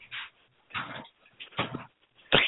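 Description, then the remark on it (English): Several short, breathy slurps of someone sipping tea, four separate sips spaced by brief pauses, the last one loudest and sharpest, with no talking. “pardon me one sec while I sip my tea.”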